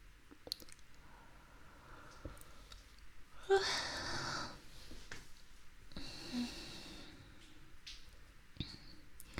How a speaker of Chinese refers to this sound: 看着你这睡眼朦胧的样子，给我也看困了，连着打了好几个哈欠了。